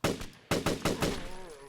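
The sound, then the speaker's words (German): AR-15 rifle fire: about five loud, sharp shots in quick, slightly uneven succession, each crack trailing into a ringing tail, ending in a fading tonal hum. “Das ist die AR-15. Richtig geile Knarre eigentlich. Macht natürlich Lärm und lockt Viecher an, aber so manchmal gar nicht so blöd, wie wir eben gesehen haben.”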